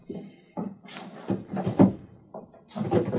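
The top drawer of a wooden chest slides open and shut, with several short scraping rushes and soft knocks over a few seconds, fairly loud and with no talking, as someone fetches a small cardboard box from it.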